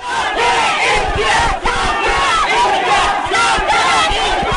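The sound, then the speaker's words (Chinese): A crowd of over 100 Tibetans in Nepal protesting in front of the Chinese embassy shouts slogans together, such as 'Long live the Dalai Lama' and 'Hu Jintao lies', a loud, continuous roar of many voices with rising and falling chants and barely a pause throughout. “他们将写有各种抗议标语的气球朝大使馆内散放，并高呼达赖喇嘛万岁、胡锦涛说谎等口号，抗议中共长期统治西藏，加大镇压示威藏人。”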